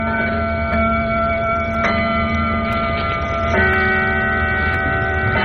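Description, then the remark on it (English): A clock chimes, its bell-like tones struck every couple of seconds and left ringing so each note overlaps the last, a steady, fairly loud sequence with no one talking. “I'm going to wait till the clock finishes chiming.”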